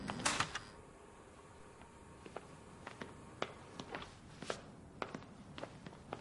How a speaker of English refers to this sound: Door open.